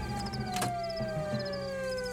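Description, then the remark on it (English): A siren wails steadily, its tone sliding slowly downward in pitch without a break, while faint high cricket chirps repeat in the background and a few soft knocks sound midway. “Yeah, how do I turn this siren off?”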